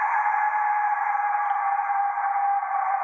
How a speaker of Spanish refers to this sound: ¿Qué es esto? Esto que estamos escuchando, no ya el nombre te lo dice todo. Es el famoso silbato de la muerte, azteca. Tiene como una forma de calavera.